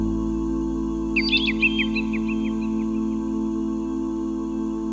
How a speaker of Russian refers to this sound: Соловьи поют и купаются.